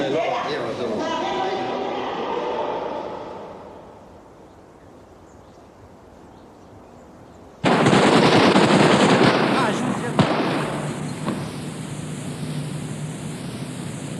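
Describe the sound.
Voices fade to near quiet, then loud automatic gunfire erupts suddenly and rattles on as a dense, continuous barrage with a sharper crack partway through: shooters including paratroopers firing the shots that killed Nicolae and Elena.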